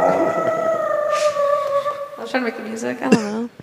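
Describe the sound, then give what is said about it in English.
A person vocalizes a drawn-out, wavering musical tone, a sung attempt at a cat's purr that comes out almost howl-like, with the pitch sliding and breaking into rougher warbles near the end. “I was trying to like purr almost, but then make music.”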